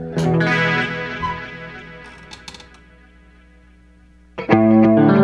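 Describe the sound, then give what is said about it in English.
An electric guitar plays loud, sustained chords through an effects-laden amplifier, ringing out and slowly decaying, with a few faint clicks before a fresh, loud chord is struck near the end. No one speaks. “I could even turn my amp up a little bit.”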